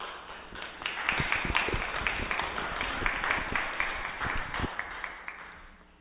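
A crowd applauds steadily for several seconds, a dense patter of many hands clapping with sharper individual claps standing out, fading slightly toward the end.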